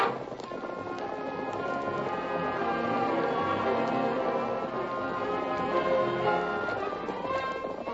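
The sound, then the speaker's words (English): Several horses gallop steadily, hoofbeats pounding in a fast, continuous rhythm that stays loud for the whole stretch, blended with a dense, busy background and no talking. “Back to camp, men. And don't spare the horses.”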